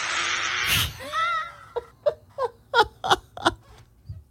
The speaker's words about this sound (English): Mm-hmm. Wow, that was impressive. I really like the end scream there.